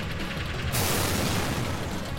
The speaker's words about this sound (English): and I'm going to hit an explosion noise, and hopefully no one's going to go to death. That was an explosion noise?